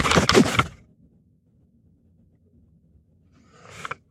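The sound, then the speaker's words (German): A hotel room door slams shut hard behind a woman leaving, a sharp heavy bang that fades into a low rumble, followed a few seconds later by a softer rattling knock. “Die Tür knallte hinter ihr ins Schloss.”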